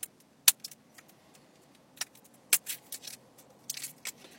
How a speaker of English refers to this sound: I'm having trouble getting the plastic off of this fucking can.